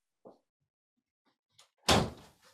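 A heavy door is pushed shut: a soft knock and a few faint clicks, then one loud slam that rings out briefly. No one speaks.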